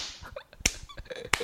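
A couple of sharp, loud hand claps spaced well apart, with a few softer, quicker claps or taps between them and no voices, clapping in appreciation of a musician's song.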